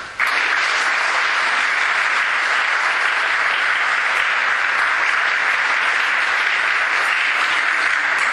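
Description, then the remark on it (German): Sustained audience applause at a church service, for children who performed a play in the services, a dense and steady wash of many hands clapping at constant loudness for the full stretch, with no voices rising above it. “Das ist nochmal ein dicker Applaus.”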